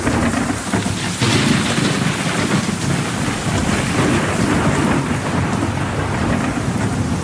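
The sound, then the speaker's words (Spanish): Heavy rain pours steadily throughout while deep thunder rumbles and rolls underneath, a loud, sustained storm with no voices present. “Y las tormentas graves y severas pueden ser 10 o hasta 100 veces más energías.”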